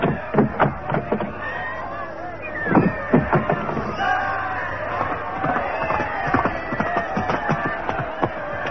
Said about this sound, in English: From Oxford, the whole loop is lined with cheering subjects. Your journey will be but brief. Cheering for who, man? I hear more cries for Raleigh than for James.